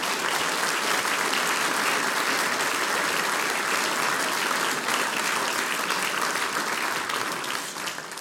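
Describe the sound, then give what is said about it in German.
Sustained applause from a large audience fills a hall for Mayor Leopold Bartsch and the man responsible for the programme, a dense steady clatter of many hands clapping at once, loud and continuous before easing slightly at the very end. “Meine Herren, das ist euer Applaus.”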